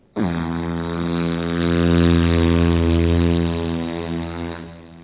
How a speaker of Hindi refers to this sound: तभी एक ग्लाइडर मेरे सर के ऊपर से गुजरता है,